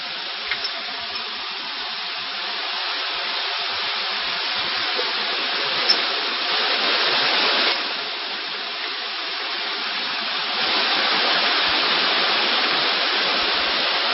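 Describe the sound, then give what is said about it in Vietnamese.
Heavy rain pours in a steady, dense hiss that fills the whole clip, swelling louder at moments, with no voices and only a faint low hum underneath. “Thôi nhưng mà mưa to thế này thì giảng làm sao mọi người nghe được.”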